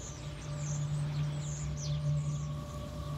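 A flock of birds chirps and twitters in quick, scattered calls at dawn, flying low and grouped, faint, over a steady low mechanical hum with no one speaking.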